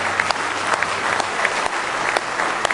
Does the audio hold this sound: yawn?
no